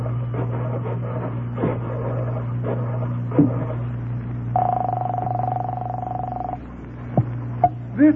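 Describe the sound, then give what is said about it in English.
A telephone in a candy store being dialed over a steady low hum: scattered mechanical clicks, a sustained tone lasting a couple of seconds, then a few more sharp clicks. No one speaks. “There's a phone in the candy store here. I'll call him from there.”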